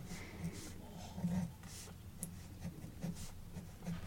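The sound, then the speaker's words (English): Soft scratching and scribbling of a pen moving across paper in short irregular strokes, drawing ethane in a chemistry lesson, with faint background hum and a few light taps. “I'll do it in a different pen.”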